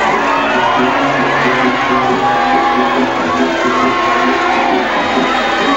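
A large crowd cheers and shouts in celebration of the news that Mafeking is relieved, a dense, loud wash of many voices with occasional whoops rising above the steady roar for several seconds.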